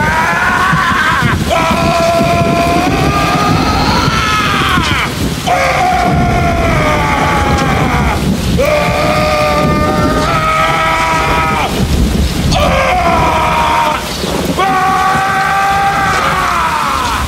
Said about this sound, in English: John Goodman lets off his first of many like full on body yells